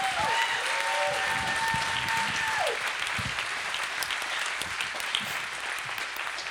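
Steady, dense applause from a crowd as a woman comes up to take the microphone fills the whole stretch, with a brief whistle-like tone sliding through the opening seconds before the clapping continues evenly to the end.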